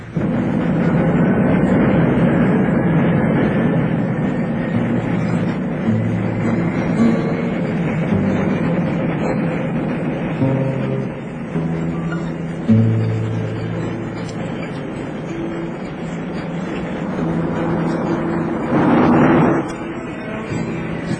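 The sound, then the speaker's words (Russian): A rocket launches along launcher rails with a loud, steady roar and deep rumble that holds for the whole stretch, then swells into a brief, brighter surge near the end. “Ракета пошла по рельсам.”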